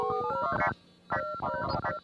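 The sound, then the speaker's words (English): Synthetic electronic tones from a sensory device worn dangling around a man's neck, emitting vibrations and tones, chirp in quick, stepping melodic runs, rising and falling in pitch. Two busy bursts are split by a brief lull, fairly loud, with no voices. “He walked around with these devices dangling around his neck wherever he went, emitting vibrations and synthetic musical tones.”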